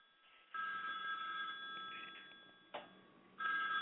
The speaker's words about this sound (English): What's that ringing? You hear your phone ringing?